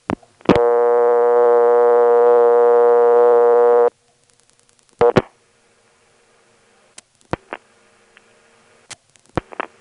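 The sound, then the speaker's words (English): A buzzy, steady telephone tone drones for a few seconds and cuts off, followed by scattered sharp clicks and thumps over a faint hum as 8 is dialed to access the EAS trunk and then a ringing number in the Wilson step exchange. “We'll dial 8 to access the EAS trunk, and then we'll dial a ringing number in the Wilson step.”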